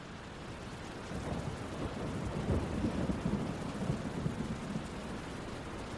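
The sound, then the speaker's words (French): Heavy rain pours down steadily on the Place Saint-Étienne in Toulouse while low thunder rumbles and rolls through, swelling in the middle and fading slightly toward the end; no voices. “Des cataractes d'eau s'abattent sur la place Saint-Étienne, ponctuées de coups de tonnerre.”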